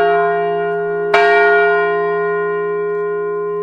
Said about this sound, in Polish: W dniu dzisiejszym znajdujemy się również na Placu Grunwaldzkim. To jest też pewien symbol, że uderzamy w dzwon pokoju. Symbol polegający na tym, że pokój nikomu nie jest dany raz na zawsze.